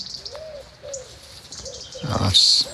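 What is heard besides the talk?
wood pigeon cooing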